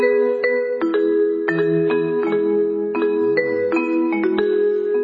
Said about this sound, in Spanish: Timbres se llaman timbres incidentales. Claro. Siento que viene alguien que se fue. Pasó el tiempo.